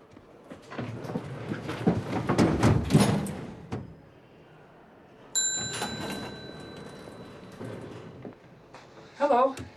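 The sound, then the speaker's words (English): Elevator doors in the Empire State Building slide and bump shut with a rumbling, clattering rush as someone nearly gets caught between them, then a high, steady electronic tone rings over a low mechanical hum. Brief vocal sounds surface near the end. “He's unsure of the elevator and nearly gets caught between the doors.”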